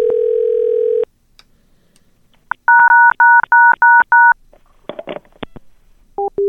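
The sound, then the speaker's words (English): A steady dial tone cuts off, then a quick run of six evenly spaced telephone touch-tone beeps sounds loud as someone who has picked up a call presses the keys, followed by a burst of line noise and a couple more tones. “Okay, they picked up and hit a bunch of touch tones.”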